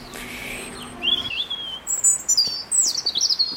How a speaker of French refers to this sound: Discussion avec un rouge-gorge qui discute avec ses copains, les moineaux.